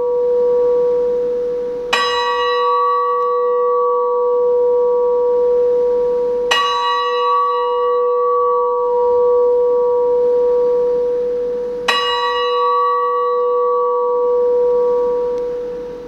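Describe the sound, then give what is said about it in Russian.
A large memorial bell tolls slowly three times during a minute of silence at a Day of Memory ceremony for internationalist soldiers (Afghan war veterans) on 15 February, each deep strike ringing out with a long, sustained hum that carries between strokes, with no voices heard. “Подчас хвилины молчания все устали под гуки звона.”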